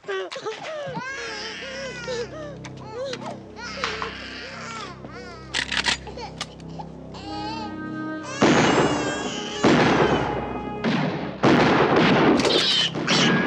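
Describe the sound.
A baby wails and voices cry out, then loud gunfire erupts in repeated sharp bursts during a gun battle at a house, the shots cracking irregularly over the commotion for the last several seconds.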